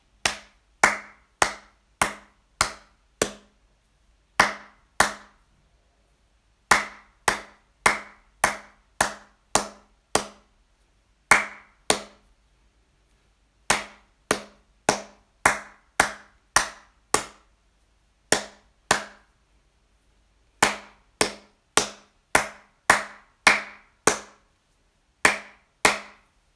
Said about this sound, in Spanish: Primero, el ritmo percutido con palmas o encima de la mesa. Un, dos, tres.